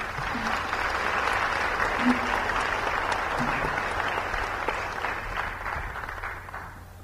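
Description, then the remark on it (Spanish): An audience of officials, students and academics applauds steadily for about seven seconds at the opening of the pre-hearing on femicide and gender violence in Chiapas of the Tribunal Permanente de los Pueblos, México chapter; a dense, even patter of many hands clapping that holds its level before tapering slightly at the end. “Bienvenidos todos y un aplauso, por favor.”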